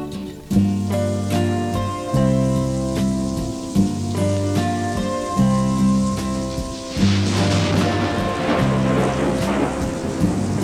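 Steady piano-and-bass music plays throughout, and partway in a hissing downpour with rumbling thunder swells up beneath it, the storm noise fairly loud and continuous against the chords.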